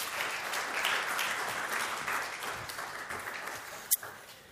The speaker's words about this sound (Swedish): Jag tycker vi kan ge dem en applåd.